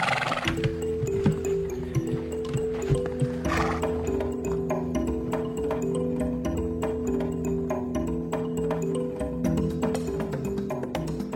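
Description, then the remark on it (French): A horse's hooves clip-clop in a steady walking rhythm, clear, with a brief whinny early on, over a sustained musical backdrop; the horse carries a health worker on a medical visit up a mountain path at about 4000 metres where cars cannot pass. “Aujourd'hui, pour ma visite médicale, j'ai la chance d'avoir ce cheval.”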